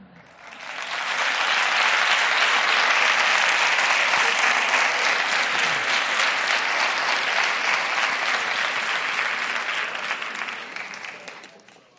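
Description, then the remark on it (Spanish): A large crowd breaks into sustained, dense applause and cheering for a procession float of Jesus passing through the Puerta del Puente; it swells within a second, holds steady at full strength for about ten seconds, then tapers off, with scattered cheers and voices mixed in. “Aclamado, vitoreado el Señor.”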